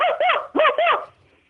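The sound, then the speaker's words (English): A person imitates a barking dog with four quick, loud, woof-like yelps in two pairs, then falls silent. “Now the next one is going to have a higher pitch, if you can, like bark like a dog.”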